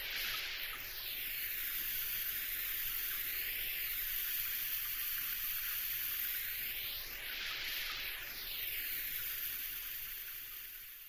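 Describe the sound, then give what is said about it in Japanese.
A steady shower spray runs continuously, rinsing shampoo from hair, a broad hissing wash of water with shifting, swooshing sweeps as the stream moves over the head. No voices are heard. “はい、きれいに流せましたよ。”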